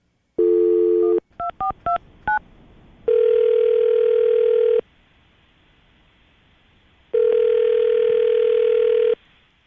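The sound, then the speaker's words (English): A phone dial tone cuts off into a quick run of keypad beeps as an outgoing call is dialed, followed by two long ringback tones separated by a few seconds of quiet line hiss, with no voices. “we're about to call Leslie and see if we can get an answer why she's not returning your phone calls”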